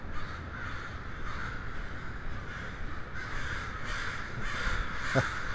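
Crows caw repeatedly in harsh, rhythmic bursts against a steady outdoor background hiss, with one sharper call standing out near the end.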